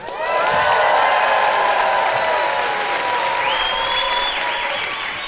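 A live audience at a touring live show in Australia applauds and cheers loudly and steadily for about five seconds, with dense clapping, scattered whoops and high whistles rising above the crowd noise.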